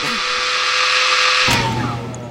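A man's loud electric drill whirs steadily with a high mechanical whine, then abruptly cuts out partway through, leaving a lower hum that fades as the motor winds down.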